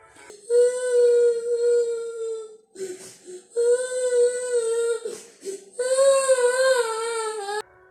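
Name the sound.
crying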